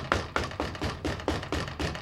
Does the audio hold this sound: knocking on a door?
yes